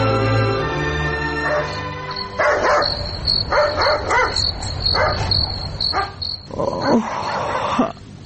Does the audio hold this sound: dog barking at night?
yes